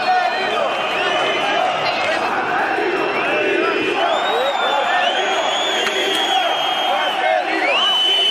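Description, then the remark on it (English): A huge football stadium crowd chants and shouts together for manager Marcelino to resign, late in a match after Huesca scored a penalty, a dense, steady roar of many voices with rising and falling sung tones, staying loud throughout with no individual speaker standing out. “Marcelino dimission, Marcelino resign, ringing out around the ground.”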